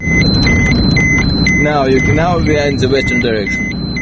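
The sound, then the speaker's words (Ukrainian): A car carrying foreign tourists drives into a radiation-contaminated strip of the Chernobyl exclusion zone, its engine rumbling steadily, while a high electronic beep repeats in an on-off pattern as the guide's dosimeter goes off the scale, and a voice briefly speaks over the noise. “Машина із іноземними відвідувачами приїздить смугу радіаційного забруднення.”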